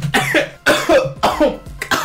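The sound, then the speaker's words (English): Several harsh coughs in quick succession, four loud bursts with brief gaps between them, each one raspy and forceful, with no talking. “Cough it out.”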